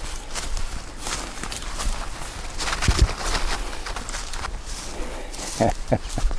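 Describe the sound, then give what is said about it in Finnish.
Footsteps crunch steadily outdoors as someone walks uphill, a continuous rustling tread with a few sharper, heavier steps near the end and faint bird calls in the background. “Tässä tulee askelluksia.”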